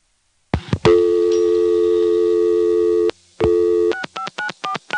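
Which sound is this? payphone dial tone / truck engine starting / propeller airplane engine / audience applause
payphone dial tone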